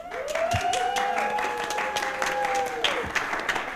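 An audience claps steadily and densely for a few seconds. A long, sustained whistle or whoop rides over the dense clapping.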